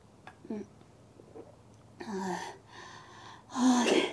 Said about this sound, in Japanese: もう、息切れだよ。